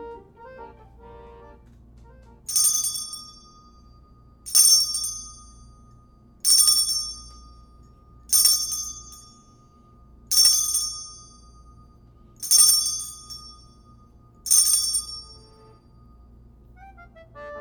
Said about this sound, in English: I think you're up with the chime.